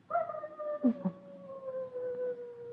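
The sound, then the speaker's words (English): A fox cries out up on a ridge above a valley in mating season, a long wavering wail that slowly sinks in pitch, broken by two short yelps near the start, with no voices present. “Listen, the foxes are barking up on the ridge.”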